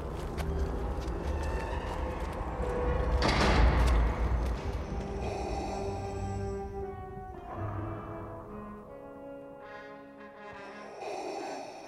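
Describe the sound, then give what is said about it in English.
A heavy door leading to a final test conducted by the Emperor rumbles open with a loud, broad whoosh and thud, then gives way to a sustained low droning hum with faint tonal layers, no voices present. “The test lies through this door.”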